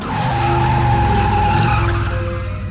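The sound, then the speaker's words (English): A motorcycle comes down out of the sky above the treetops, roaring loud, its tires screeching in one long sustained skid that eases off slightly toward the end as it comes to a halt. “Coattails flying, Hagrid, a huge giant, zooms down and screeches to a halt.”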